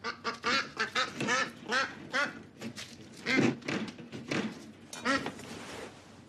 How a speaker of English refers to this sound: … chats with … over coffee as Lucas grabs the duck from its cage.